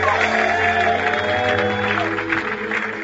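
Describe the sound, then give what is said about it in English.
A large crowd claps and cheers steadily for a few seconds, giving Jesus a big clap at the end of a prayer. The dense applause is loud, with sustained tones and voices mixed in underneath. “Let's give Jesus big, big clap.”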